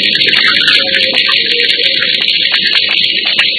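A steady, loud hiss of water running from a tap pours without pause, bright and splashy with small flickers in its texture and no voices.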